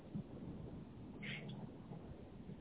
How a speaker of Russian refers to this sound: Вертолеты летают. Гремучие.